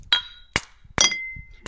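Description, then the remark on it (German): Glass drink bottles from a six-pack clink together in a toast, three or four sharp clinks spaced irregularly, some leaving a bright ringing tone that fades, with no talking. “Prost, ne? Prost. Prost.”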